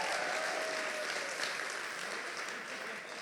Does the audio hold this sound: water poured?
no